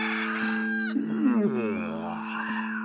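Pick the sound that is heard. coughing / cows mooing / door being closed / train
cows mooing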